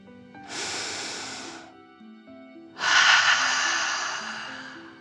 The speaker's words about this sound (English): let's relax by taking 3 deep dragon breaths. Breathe in through your nose, filling up your belly, and then out through your mouth, imagining you are breathing fire. Ready? Deep breath in and out.